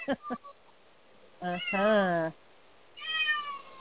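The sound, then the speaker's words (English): A cat named Harry meows several times: two short chirps, then a long, wavering meow, and after a pause another drawn-out meow. No other sounds stand out. “Hey, kitty.”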